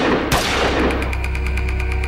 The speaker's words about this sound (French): Des coups de feu. Sans comprendre ce qui lui arrive, l'homme s'effondre en avant, touché dans le dos. La femme, elle, bascule, elle aussi, frôlée par un second projectile.